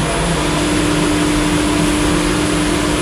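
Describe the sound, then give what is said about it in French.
A loud, steady mechanical drone of elevator motor machinery running in a building's open elevator machine room, with a constant hum and a sustained tonal whine, unbroken throughout, no voices. “C'est les machines qui font fonctionner le moteur de l'ascenseur.”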